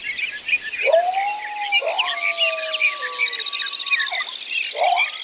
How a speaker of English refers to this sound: The almost total silence of the pre-dawn hours was followed by birds and coyotes waking at dawn.